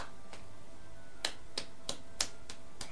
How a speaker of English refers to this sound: Clap, clap, clap, clap.